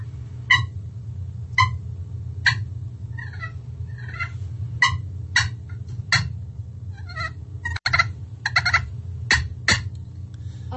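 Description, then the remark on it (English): Sharp, bright clucks from a slate turkey call repeat at irregular intervals, mixed with soft rolling purrs, imitating a hen's cluck and purr, played clear over a steady low hum, with no talking. “I did the cluck and purr, and that's when they're just on the ground, like, feeding.”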